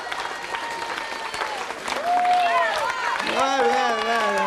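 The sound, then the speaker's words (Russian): A crowd applauds a group being introduced at the start of a losers' party show, with dense, steady clapping throughout, and from about halfway through loud whoops and cheering voices rise over the clapping. “Аплодисменты, друзья!”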